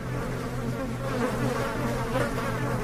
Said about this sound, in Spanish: Cuando la cajuela se abrió, con ella salió una nube de moscas que nos hizo manotear y retroceder.